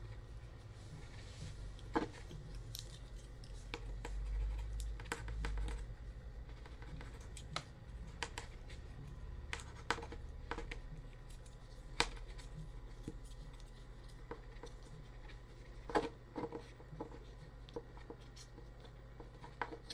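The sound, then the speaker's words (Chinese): A pen scratches across paper as someone writes out a paper test, with irregular short strokes and light taps against a quiet, steady low hum. No one speaks. “把纸张试卷写完，慢慢等吧。”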